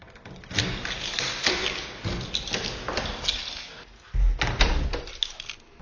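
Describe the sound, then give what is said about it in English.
A door is opened with a run of clunky thuds and rattling knocks over several seconds, ending in a heavier bump near the end. No one talks. “I'm gonna open the door for you.”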